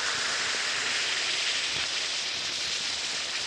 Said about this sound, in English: You just try Alka-Seltzer. It really works. Drop two tablets into a glass of water like this. Listen to it fizz.